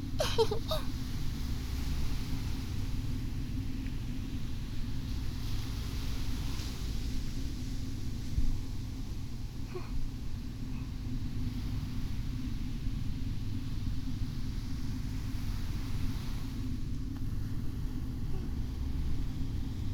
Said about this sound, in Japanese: 私、貝殻を耳に当てる音、好きなんですよ。家に結構コレクションしたりしてるんです。